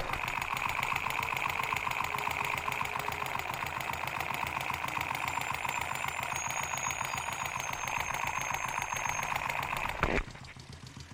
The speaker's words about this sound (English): Now I'm going to take the contact mic off of the muffler, as you've just heard, and I just want to touch it around different parts of the bike. I'm about to touch it to the area where the cylinders are. Maybe you can hear them going up and down.